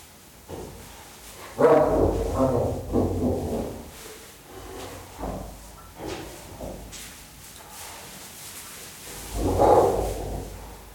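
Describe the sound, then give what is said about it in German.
A female spotted hyena snarls harshly at a male in rough, raspy bursts: a loud stretch of growling near the start, a few shorter snaps in between, and another loud snarl near the end. “Wenn sie ihn so in die Schranken weist und mal gehörig anfaucht, dann geht er dann schon davon.”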